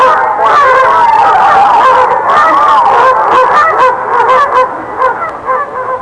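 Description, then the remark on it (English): A duck quacks loudly as it flies away, in a rapid, continuous stream of harsh, honking calls that barely pause for six seconds, wavering slightly and growing a little choppier toward the end. “Straight over, Let's Pretend. Stop at the story of Thumbelina. Fly away, Duck.”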